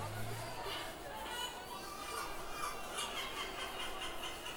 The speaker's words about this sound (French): Enfin, elle se termine avec des mouettes qui, de concert, écoutent et se moquent de leurs cousins humains.